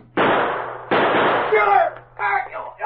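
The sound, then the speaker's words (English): Two loud, sharp gunshots fired at a man as he opens a door, in quick succession, each leaving a brief rough, noisy tail, followed by a voice crying out over a low steady hum. “He's to blame for us shooting the boss.”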